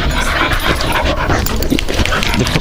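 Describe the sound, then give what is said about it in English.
A puppy pants rapidly and steadily, with a few soft whimpers mixed into the breathy rhythm, as it plays roughly with a person, with no talking. “I'm getting beaten up by a puppy.”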